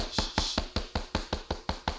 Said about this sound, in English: Who is that knocking? Baby, so who is that in there?